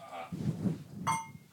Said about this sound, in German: Richtig, das erste Bier aus grünen Flaschen. Lass mal anstoßen eben. Ja, wir stoßen auch jetzt erstmal an.